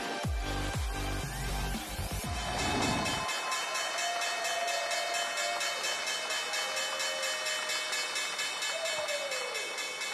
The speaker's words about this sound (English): And there you have the opening bell on this Thursday morning.